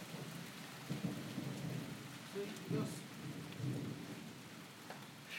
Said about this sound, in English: That was really loud thunder earlier.